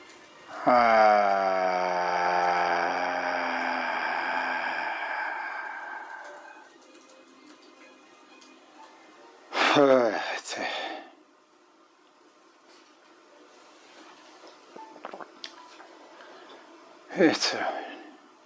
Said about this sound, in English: And again, I'm not going to bore you with all the breathing, but here's a few minutes of what took place.